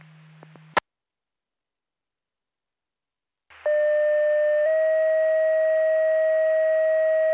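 After a brief click and a few seconds of silence, a loud, steady electronic tone sounds, then steps up slightly in pitch and holds: a two-tone auto aid pager test alert for the Mendota and Troy Grove Fire Department, with faint static beneath.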